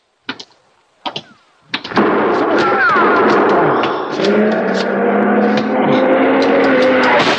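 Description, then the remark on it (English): Three sharp gunshots crack out about a second apart, loud, in an alley, hitting a person, then a dense, roaring rush of noise takes over and continues to the end. “Been hit. Oh, it isn't bad.”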